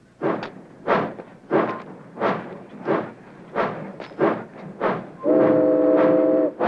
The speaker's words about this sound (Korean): 셰크의 화물열차 19호는 포틀란드를 향해 다시 출발하고 넘버원은 자신이 다시 이 열차에 탄다고 예고합니다.